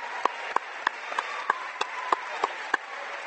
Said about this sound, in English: At this time, let's give the 2017 Minster Wildcat Division 7 state football champions one more round of applause. Congratulations, team.